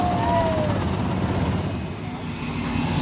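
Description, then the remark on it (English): Helicopters drone overhead just before midnight above a caravan of flatbed trucks and dozens of police heading to the airport, a steady, loud rotor rumble that fills the scene, with a faint whine drifting above and the noise easing slightly toward the end. “were on their way to the airport in a caravan of flatbed trucks, dozens of police, and choppers overhead.”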